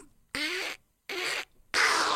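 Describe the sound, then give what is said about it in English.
A voice imitating the cartoon duck Donald Duck: three loud, raspy, buzzy squawks in quick succession, each about half a second long, with short silent gaps between them and no ordinary speech. “I don't know that I do Donald Duck.”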